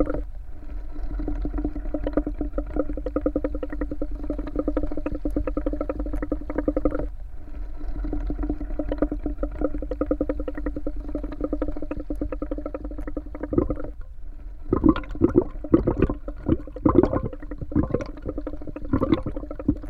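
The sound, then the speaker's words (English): Steady gurgling of air blown through a straw into a cup of liquid, a dense continuous bubbling that pauses briefly, then returns in choppier, louder bursts. “Bubbles through a straw into a cup.”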